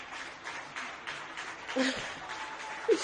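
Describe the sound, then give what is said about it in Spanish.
Neighbours on balconies in Jaén clapping at once in a spontaneous tribute, heard from the balcony of a hospital ICU, a steady, hissing patter of applause at a fairly soft level, with a couple of brief voiced sounds or whistles rising above it. “No se verá, pero está la gente en los balcones aplaudiendo.”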